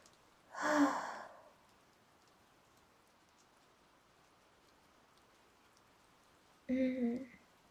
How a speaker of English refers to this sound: I love it when it rains, especially in November, because it reminds me of one of my favorite songs ever.